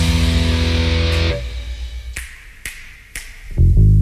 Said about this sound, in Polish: wsłuchajcie się w mocne, głuche uderzenia. To te beczki, o których mówiłem.